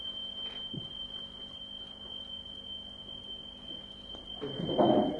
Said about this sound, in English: What's that? What are they testing? Fire alarm. Fire alarm.